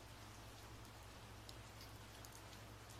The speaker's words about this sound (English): This is nice, isn't it? The soothing sound of rain against the window.